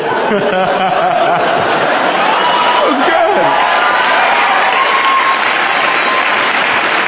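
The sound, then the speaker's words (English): A crowd breaks into sustained applause with scattered cheers and a few chuckles, a dense steady wash of clapping that holds at an even loudness for about seven seconds. “Now, bolstered by that applause, you should be like, I own the room, fuck the fat guy and him.”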